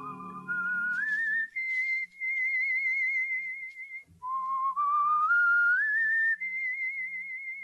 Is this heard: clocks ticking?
no